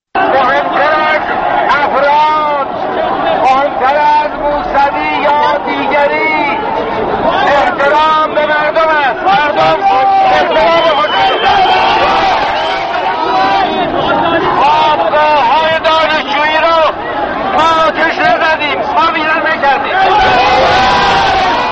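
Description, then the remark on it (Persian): A dense protest crowd in the street fills the air with continuous loud chatter and overlapping voices, a steady roar of many people talking and calling out at once with occasional shouts rising above the babble, at the peaceful demonstration of 25 Khordad 88, where Mir-Hossein Mousavi spoke to people from a car roof through a handheld megaphone. “موسوی نیز همراه همسرش زهرا رهنورد که شاخ گل قرمزی در دست داشت بر روی سقف خودروی در میان ازدحام شدید جمعیت از بلندگوی دستی با مردم سخن گفت.”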